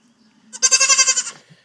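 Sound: goats bleating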